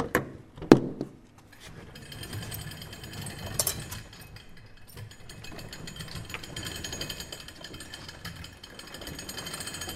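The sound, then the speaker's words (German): A large motorized roll-up door of a fire station vehicle bay clanks once and then rattles open with a steady mechanical drone and metallic chatter, loud, running continuously with no voices. “So klingt es, wenn das Tor sich öffnet.”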